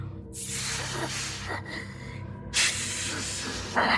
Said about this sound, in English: It was making a noise, a kind of weird hissing noise. It was breathing and hissing, and I could feel its cold breath on my neck.